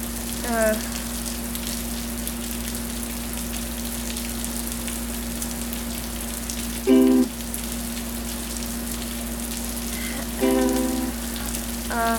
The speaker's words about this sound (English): This is one of those storms that I'm afraid is gonna bring in bugs because they're trying to seek shelter from the flood.